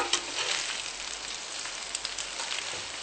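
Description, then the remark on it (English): Vegan duck frying in a pan with a sprinkling of garlic powder while being gently mixed, giving a steady, crackling sizzle with tiny bright pops scattered throughout, fairly soft and continuous, with no voices. “Let it fry through a little bit, gently mixing it.”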